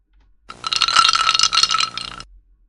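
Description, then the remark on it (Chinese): Ice cubes rattle and clink against each other for under two seconds, a dense, bright jumble of small hard knocks that starts and stops abruptly, with no voices. “冰块。那，我要你拿着一块”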